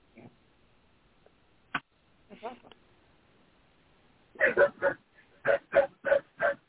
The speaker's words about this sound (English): Well, I will tell you that my dog's awake. It's like, hello, everybody, I'm awake. Think I might want to go outside before I go back to bed again.